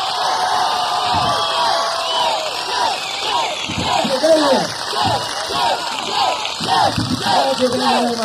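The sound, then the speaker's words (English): An audience at a Laughs Unlimited comedy show cheers and whoops over steady applause to welcome Jay Johnson, from the TV show Soap, with many overlapping high shouts and yells rising and falling throughout at a fairly loud, sustained level. “How about a nice big round of applause, Mr.”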